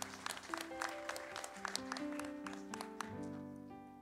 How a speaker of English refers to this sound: Wow, we had one applaud.